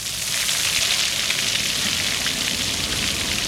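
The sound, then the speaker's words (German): Water splashes and patters steadily in the fountain in front of the Harzwasserwerke headquarters on Nikolaistraße in Hildesheim, Germany, at midday, a continuous hissing wash of droplets with no breaks or change in loudness. Nobody speaks. “Es plätschert das Wasser am Brunnen vor den Harzwasserwerken, die hier in Hildesheim in der Nikolaistraße ihren Hauptsitz haben.”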